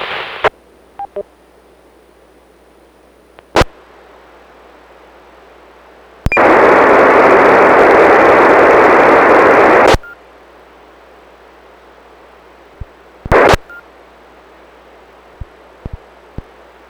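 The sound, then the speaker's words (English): Radio static hisses steadily as a station tries to check in, with sharp clicks and a loud burst of rushing noise for several seconds in the middle; the weak station's signal stays totally down in the noise, unintelligible beneath the hiss. “Okay, I heard Kilo Delta 9, Whiskey Foxtrot Kilo, and then I had a station that was totally down in the noise.”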